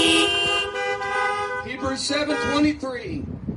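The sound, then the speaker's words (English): A long, steady car horn blares for over a second, then more overlapping honks and wavering tones follow, fairly loud, with some voice-like sound mixed in. “If you're there, give me a good Baptist honk.”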